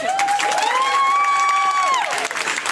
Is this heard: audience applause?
yes